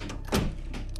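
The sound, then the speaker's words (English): A bedroom door swings shut with a solid thud, followed by a couple of lighter clicks as it is locked, with quiet room tone around it. “Going into his bedroom, Joey locks the door.”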